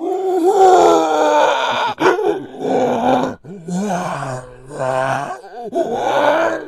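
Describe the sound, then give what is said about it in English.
A voice imitates a character's heavy, groaning breathing as he slowly paces around: several long, drawn-out moans and exhales in a row, loud, with brief gaps between them and no words spoken. “Yeah, and then we get a symphony of Gary breathing like this.”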